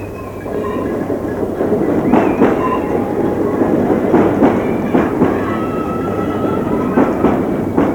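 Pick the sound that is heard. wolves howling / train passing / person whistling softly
train passing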